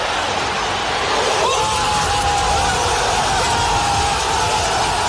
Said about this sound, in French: Et vous allez entendre la réaction des supporters marseillais. T'étais au cœur du COP.